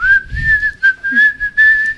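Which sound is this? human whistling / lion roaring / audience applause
human whistling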